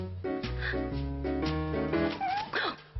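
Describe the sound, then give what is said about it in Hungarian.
A cat meows with whiny, gliding cries near the end, set against a steady, sustained tonal musical background. No one speaks. “Van, aminek a cicád egyszerűen nem tud ellenállni.”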